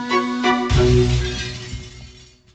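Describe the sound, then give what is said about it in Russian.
A large chandelier, struck by a sword blade during a sabre fight, crashes down onto a man's head and shatters in one loud impact, followed by a spray of ringing, tinkling glass fragments that settle and fade over a couple of seconds. No voices. “Бой разгорелся пуще прежнего, и я уже прощался с жизнью, как вдруг мой противник задел клинком огромную люстру, и в ту же секунду она обрушилась ему на голову.”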